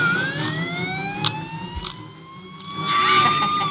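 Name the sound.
ambulance siren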